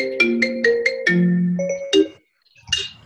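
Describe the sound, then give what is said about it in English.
A loud computer message notification chime, from a message arriving during an online meeting, plays a quick run of bright electronic notes, followed after a short pause by a softer single ping. No one speaks. “Somebody just did and it binged super loud.”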